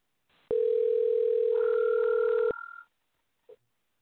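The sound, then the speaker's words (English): A steady electronic telephone tone sounds for about two seconds, loud, with a second higher tone layered in partway through, then a brief faint blip after a pause, as a phone line rings a caller for a live on-air call. “So here's Nakia Smalls, folks, ringing.”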